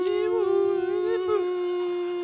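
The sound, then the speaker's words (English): A single long, wavering whale song call, a steady moaning tone with slight pitch bends, holding at an even loudness for a couple of seconds with no talking over it. “I can hear one now. Isn't it something like you do it for relaxation or something? You get a tape of whale music?”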